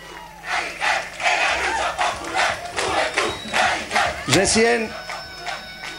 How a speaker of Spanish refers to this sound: Recién gritaban ahí las chicas de Fraile.